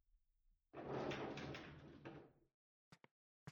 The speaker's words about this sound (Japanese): それよりほら、ドア閉めてこっち来てください。こっち。